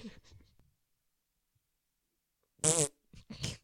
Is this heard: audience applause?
no